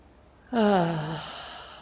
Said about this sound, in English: So breathing all the way in. And again, you might put a hand on your tummy. Just breathing all the way in, filling up the lungs.